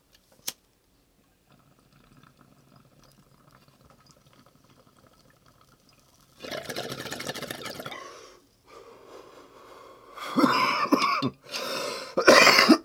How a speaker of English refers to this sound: Oh, dude. Because I've been smoking these really big bongs lately, I've been coughing a lot.